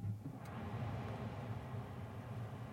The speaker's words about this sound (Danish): Og er I tvivl, så er der altså lidt støj fra ventilatoren, fordi resten af bilen støjer jo ikke.